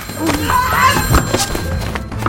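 A dull, heavy thunk as a woman bashes a man with a telephone, fairly loud, set among scuffling movement and a faint steady hum in the background.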